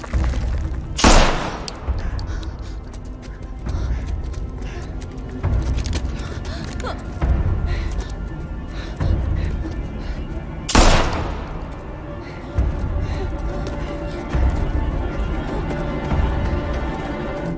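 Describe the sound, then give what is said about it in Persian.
Gunfire rings out, with two sharp, loud blasts standing out above a dense, chaotic wash of scattered shots and commotion, while voices can be heard in the background. “خدای من گلوله بود. یعنی اون موجودات اومدن.”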